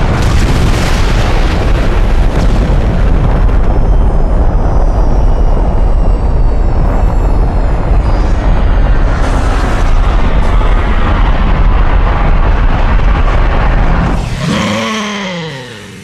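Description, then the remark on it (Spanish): A loud, sustained roaring crash as an aircraft, gliding in with engines cut after entering the atmosphere, impacts and lands on a moose, rumbling and grinding heavily for about fourteen seconds with scraping debris, then abruptly dropping off into a fading whine. “Prepárense para el impacto.”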